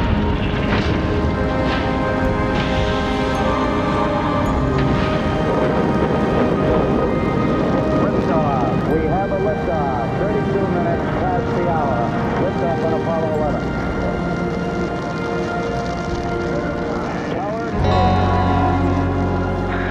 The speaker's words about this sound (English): T-minus 15 seconds. Guidance is internal. 12, 11, 10, 9. Ignition sequence starts. 6, 5, 3, 2, 1, 0. All engine running.